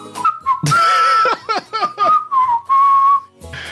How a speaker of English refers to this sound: Let's see if the video helps. Oh, we got the claps. Oh, and the whistles.